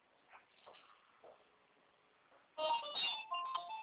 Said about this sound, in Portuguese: Ah, é esse telefone que tá tocando aí. Uhum. É nesse telefone que eu mandei a mensagem.